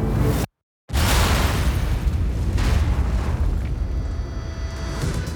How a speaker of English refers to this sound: Seconds later, 13 barrels filled with TNT exploded in a hidden tunnel beneath the road. The blast launched the convoy into the air and instantly killed the officers in the front car.